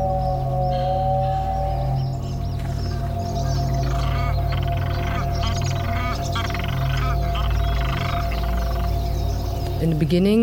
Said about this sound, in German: Zu Beginn gibt es ein Gespräch zwischen einem Goldschopf-Pinguin und einem Schieferbrust-Dinamo